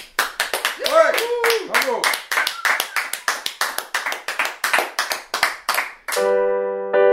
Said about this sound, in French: Bon, on t'applaudit bien fort.